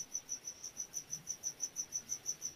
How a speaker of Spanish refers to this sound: Y suena un grillo. Es que él quiere opinar también.